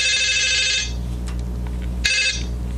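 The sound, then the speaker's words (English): A telephone rings on an outgoing call, heard down the line: one ring lasting nearly a second, a pause, then a second ring that cuts off at the end. No one speaks. “They exchanged telephone numbers, and then it was time for a phone call.”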